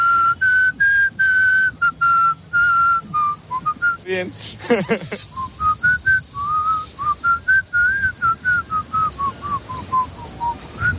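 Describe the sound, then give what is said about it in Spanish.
A person whistles a wandering melody, clear and fairly loud, in a string of short, rhythmic notes, broken midway by a brief burst of noise and a spoken word. “¿Y a ti qué tal se te da, por cierto? Sí, silbar.”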